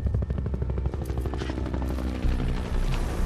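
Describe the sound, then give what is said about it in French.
Helicopters carrying terrorists and their nine hostages land at 22:30, a loud, steady rotor thumping with dense low rumble and a chopping pulse running throughout, no voices present. “Les hélicoptères se posent avec les terroristes et leurs 9 otages.”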